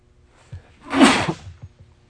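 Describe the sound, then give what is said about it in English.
A single sharp sneeze bursts out with a breathy, hissing rush lasting about half a second, preceded by a faint intake and followed by quiet. “Bless you.”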